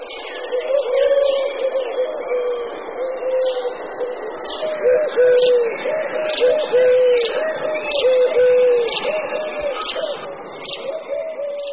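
Collared doves coo steadily, several soft, hollow calls overlapping for the whole stretch, while smaller birds chirp and twitter faintly higher up in the background.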